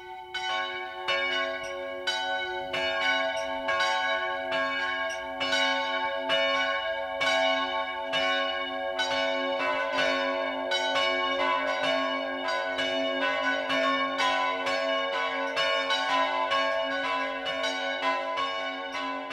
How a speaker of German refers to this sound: Es ist 12 Uhr. Das Mittagsläuten kommt heute von der katholischen Pfarrkirche St. Michael im oberbayerischen Sachrang.